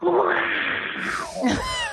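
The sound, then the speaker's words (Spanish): A voice imitates a long, exaggerated yawn, a loud drawn-out groaning sweep that rises and falls, ending with a strained, breathy vocal flourish. “No, la postura y el ruido que hace bostezando.”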